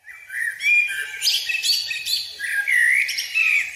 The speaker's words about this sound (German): Wer so schön singen kann wie eine Amsel, der ist nicht nur bei Vogelfreunden sehr beliebt.